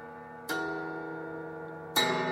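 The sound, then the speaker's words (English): Two bright chords strummed on an autoharp ring out about one and a half seconds apart, each sustaining and slowly fading like a chime, imitating a grandfather clock striking as a sound effect. No one speaks. “AutoHarp is a wonderful tool to have because, you know, you can do it, you know, for the creaky door, but it also can be the, you know, grandfather clock chiming.”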